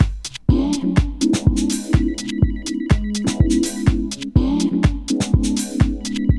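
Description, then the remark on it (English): A phone rings with a loud electronic ringtone: a bright synthesized melody over a steady thumping beat, repeating continuously with no voices. “Pick up the phone, baby, pick up the phone.”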